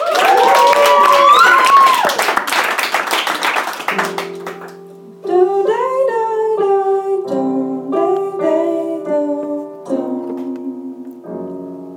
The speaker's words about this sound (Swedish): Och nu är det dags för den 10:e. Ska vi hälsa henne välkommen också? Ja, det tycker jag. En stor applåd